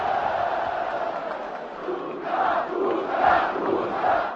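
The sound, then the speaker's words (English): A vast outdoor crowd of about 800,000 people at a demonstration on Prague's Letná Plain on 25 November 1989 chants a singer's name in unison, the roar swelling rhythmically with each repetition over a constant wash of many voices. “…, …, shouted the crowd.”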